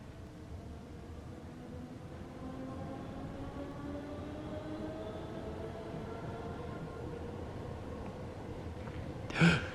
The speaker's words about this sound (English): Please fasten your seatbelt. Vac train is departing.